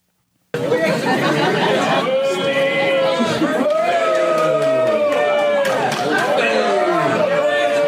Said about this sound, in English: Whoa, and then all the booing. This is the big, big boo here.